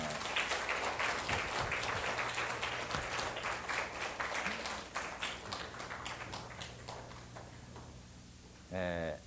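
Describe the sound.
A crowd at a church worship service applauds together to welcome a visitor, a dense wash of clapping that slowly thins out, followed by a brief spoken voice right at the end.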